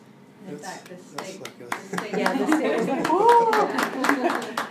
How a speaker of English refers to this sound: We clapped in step.